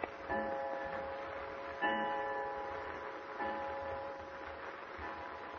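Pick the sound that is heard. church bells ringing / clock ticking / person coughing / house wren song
clock ticking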